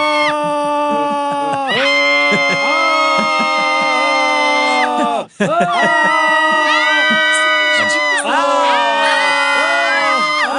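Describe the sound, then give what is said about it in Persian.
Several voices scream together in loud, sustained, high-pitched yells that rise and fall in waves, breaking off once briefly midway before the group resumes screaming. “فریاد بزنید. فریاد.”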